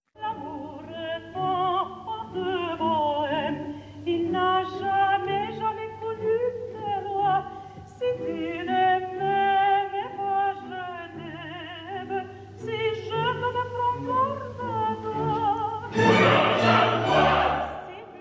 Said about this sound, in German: vielleicht hören wir ja kurz einen Auszug aus der berühmten Habanera